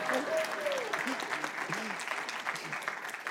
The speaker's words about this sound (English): You can clap.